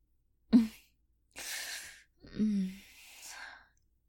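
Deep, heavy breathing: a short voiced catch, then a long airy breath and a slower, sighing exhale with a faint vocal edge, fairly soft, with no talking.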